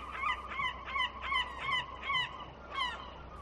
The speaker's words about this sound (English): When the seagulls are very noisy and coming into land, that is a sign that the weather is breaking.